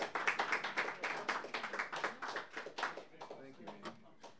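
An audience applauds with dense, steady clapping that stays loud for a few seconds, then gradually thins and fades toward the end.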